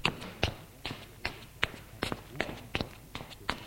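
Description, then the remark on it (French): A man and his mother walk through her apartment to the father's office: footsteps at a steady, unhurried pace, about ten clear steps in a row on a hard floor, moderately loud, with no voices. “Ils vont au bureau de père.”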